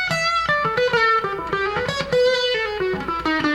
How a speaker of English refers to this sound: So it's a distortion with an octave. With a high, it's like a fuzz with a high octave.